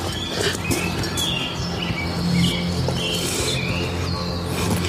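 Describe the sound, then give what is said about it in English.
Several birds chirp at night in short, repeated bursts over a steady, busy background hiss, the calls scattered throughout with no one talking. “Yeah, why are the birds chirping in the middle of the night?”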